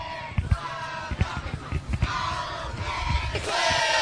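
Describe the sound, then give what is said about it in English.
A group of football players lets out a loud, rowdy cheer in a mock celebration at midfield after the coin toss before kickoff, shouting and whooping together over a steady crowd roar, with scattered sharp bursts and rising energy toward the end. “They do the mock celebration at midfield before the kickoff. And right there, you heard it.”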